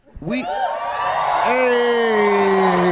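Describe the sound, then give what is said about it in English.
A live audience whoops and cheers loudly, with rising and falling shouts over a sustained wall of crowd noise that keeps building. “I was just basking in the adoration of the crowd.”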